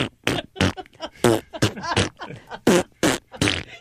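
A rapid string of about eight loud, sputtering fart noises, punchy, one after another with short gaps and nobody talking over them; they may be mouth-made rather than real.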